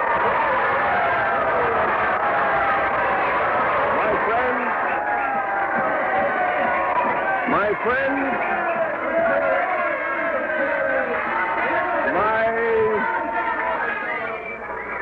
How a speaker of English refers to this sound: The crowd's cheering him. Listen to him.